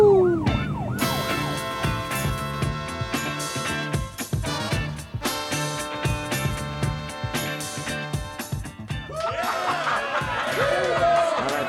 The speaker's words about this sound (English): Is it enough of anything to put on the sirens? Normally, no. Damn. For you, though... Woohoo!